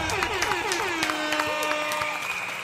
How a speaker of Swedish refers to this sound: vi ger en varm applåd och en tuta också. Inte bara till oss själva utan till vår nya sommarspecial Nyhetstorks Bonanza. En applåd och lite tuta på det, hörni.